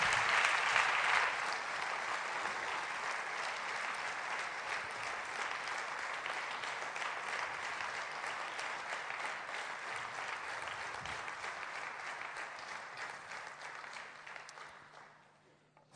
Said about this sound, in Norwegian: Takk skal du ha. Vi gir han en stor applaus.